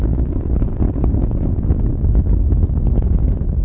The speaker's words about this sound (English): Discovery already 3.5 miles in altitude, 1.5 miles downrange, traveling almost 750 miles an hour. Everything looking good on the bird. 57 seconds into the flight. Engines beginning to rev up.